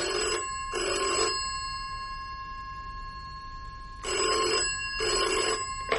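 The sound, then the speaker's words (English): A telephone bell rings twice, each ring a pair of quick, bright buzzing bursts separated by a pause of about three seconds. It sounds clear, with no talking. “And, weirdly enough, as he finished dialing, the phone rang.”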